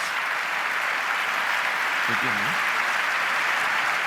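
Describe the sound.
A crowd applauds continuously, a dense, steady wash of clapping that holds at the same level throughout, with a brief low murmur of a voice partway through.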